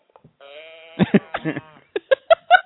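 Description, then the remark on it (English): A sheep bleat toy can is tipped over, letting out a drawn-out, wavering mechanical baa, followed by several short, choppy bleat bursts as it is turned back and forth. “I think I have audio of a cow can somewhere. It's a good sound. And there's the sheep one too.”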